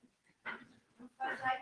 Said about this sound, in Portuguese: Se você não olha para o cachorro, ele não te ataca.